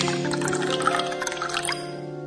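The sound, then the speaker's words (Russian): Vodka pours steadily into a glass for about a second and a half, a splashing gurgle over a steady humming tone, then trails off into quiet ringing. “Давай же, наливай полнее стаканы.”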